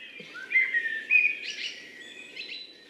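Birdsong fills the air, with clear whistled phrases of blackbirds rising and falling over a steady chorus of chirps and tweets, in deciduous woodland at a nature reserve at dawn.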